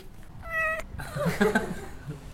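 A cat meows twice: first a steady, high drawn-out mew, then a louder, wavering meow right after, with only faint background noise around them.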